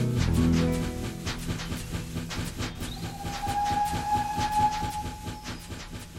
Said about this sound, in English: Today's rhyme is full of those train sounds too.